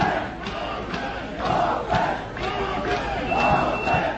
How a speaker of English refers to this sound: Large crowds of migrants are growing frustrated and calling for crossing points to be opened.